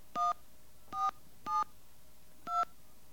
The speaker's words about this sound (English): All right, let's make a phone call here. And those of you who can translate, you'll know what these little tones mean.